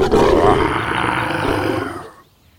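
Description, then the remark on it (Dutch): A lion lets out one loud, rumbling roar, deep and sustained for about two seconds before cutting off abruptly. “Ineens springt er een leeuw uit de struiken. Hij zit niet in een kooi. Hij rent op Dombo en Timmy af en brult.”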